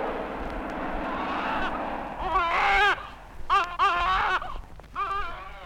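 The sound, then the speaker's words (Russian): A steady low rumbling drone gives way to the loud, high-pitched wavering cries of a just-born baby, a northerner, coming in several bursts with short breaks between them. “Ну вот еще один северянин родился. Ну, кричи.”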